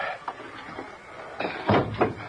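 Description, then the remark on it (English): A heavy door creaks and thumps as it is pushed up open, with a few scraping knocks building to a louder clunk near the end, without voices. “think it's safe to push up this door now.”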